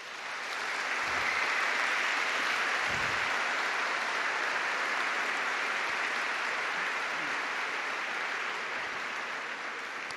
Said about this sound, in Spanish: Pero esto es grande, y yo los invito a hacer un homenaje a ellos con un aplauso. Ma yo vi invito a fare un omaggio a loro con un bel aplauso.